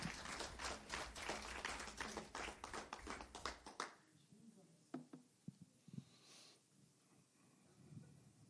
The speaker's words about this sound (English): Clap your hand.